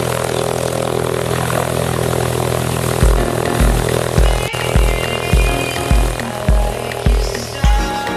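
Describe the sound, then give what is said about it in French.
A light airplane engine drones steadily and loudly at the aerodrome of Ussel in Haute-Corrèze, France, with a strong low hum and rough propeller buzz; from midway, regular low thumps pulse through it about twice a second. “Le moteur est au cœur de l'avion, le pilote est son âme.”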